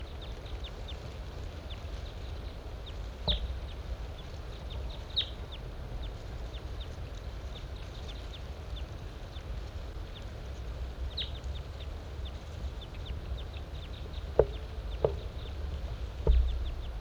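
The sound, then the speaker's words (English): A large race male bird sings in short, high-pitched notes repeated at irregular intervals over a steady low rumble, with a few sharper knocks near the end and no one talking. The bird is on the other side of a net site. “Large race male in song.”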